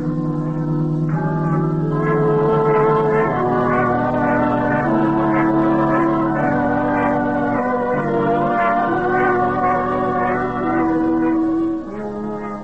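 Large bells peal continuously, their deep, overlapping tones struck in a steady repeating rhythm and ringing loudly throughout before fading slightly at the end. No voices are heard.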